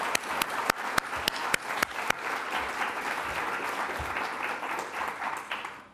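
An audience at a poetry reading in the Central Library in Los Angeles applauds in a dense, steady wash of clapping, with a few sharp, distinct claps standing out in the first couple of seconds before the applause thins and fades at the end.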